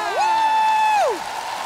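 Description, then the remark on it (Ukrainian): A concert audience in Kyiv applauds and cheers as a singer is welcomed onto the stage. A steady wash of clapping runs under one loud sustained whoop that swoops up, holds a single pitch for about a second, then slides down. “Тому під ваші гучні оплески зустрічайте”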